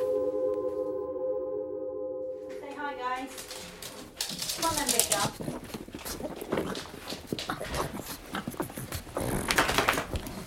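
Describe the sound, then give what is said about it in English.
A small, excitable pug named Lottie snorts, whines and yaps excitedly in a busy burst of noise, following a few seconds of steady electronic tone at the start. “The little dog is Lottie the pug.”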